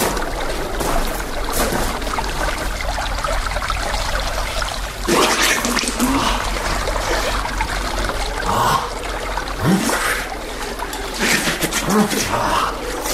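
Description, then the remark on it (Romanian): Spring water trickles and burbles steadily throughout, a continuous bright splashing texture with a few brief louder gurgles and surges along the way. “Simt un izvor pe aproape. L-auzi?”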